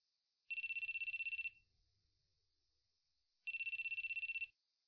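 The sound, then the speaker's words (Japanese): A telephone rings twice as a male student calls a female student, each burst a rapid electronic trill lasting about a second, separated by a pause of silence. The ringing is clear, with no voices. “男の学生が女の学生に電話をかけています。”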